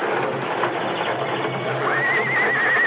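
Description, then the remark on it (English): Horses neigh and whinny in their stalls over a dense, restless rumble of noise, with a shrill, wavering whinny rising and trembling through the final second. “What's all the noise in there? What's the matter with the horses?”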